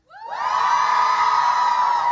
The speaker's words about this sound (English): Okay, that's better. Now you got to cheer. Cheer.